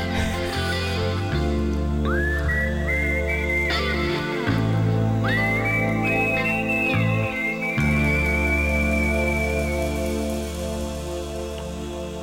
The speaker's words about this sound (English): Best whistling song. That was … with ….